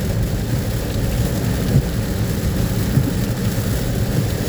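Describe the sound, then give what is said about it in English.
A steady, low rumbling roar of a storm starting, with thunder blended with rain, heard as someone gets into a car, continuous and fairly loud with no voices. “As soon as I get in the car, the storm starts.”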